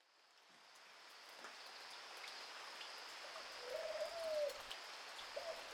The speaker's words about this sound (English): All through the night, the dove cried piteously from her nest outside my window. She slipped in and out, weaving herself into the fabric of my dreams.